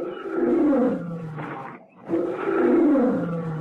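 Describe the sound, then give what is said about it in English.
Two deep, drawn-out roars from a lioness, the mother of a cub, with a short pause between them, each swelling and then falling in pitch, loud with no voices. “It's the mother lion, Louis. I know it is.”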